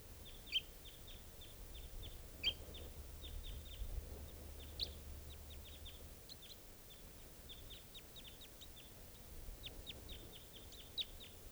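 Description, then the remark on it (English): Rapid, high-pitched chirps of a wild bird, a 'type 2', calling in trees, repeat in uneven bursts throughout, thin and fairly faint, over a low steady rumble with no talking. “And there's still a third type 2 around here somewhere calling stuff.”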